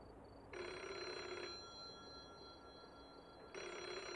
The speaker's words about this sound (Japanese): 電話が。ひじりかもしれないぞ。